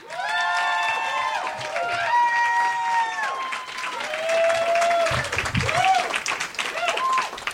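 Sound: audience applause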